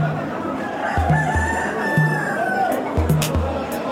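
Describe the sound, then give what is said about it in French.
Several roosters crow over one another near a cockfighting arena in Timor after midnight, their drawn-out calls overlapping against a steady, noisy outdoor background with occasional short clucks and thumps. “Je passe près d'une arène de combat de coq.”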